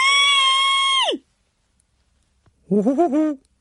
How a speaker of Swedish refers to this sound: En tant fick syn på honom. Hon skrek.